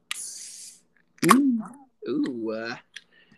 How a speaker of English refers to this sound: But here's the root beer opening for this episode, though.